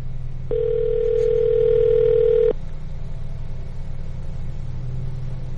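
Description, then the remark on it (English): A single two-second burst of telephone ringback tone, a steady electronic hum heard by a caller on an outgoing call to a number dialed at random by the radio show Sports Talk Live 95.5 WRJM in Coleman, over a low constant rumble, then only the background drone continues. “That was a lot of ringing.”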